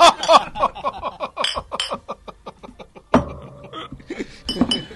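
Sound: glasses clinking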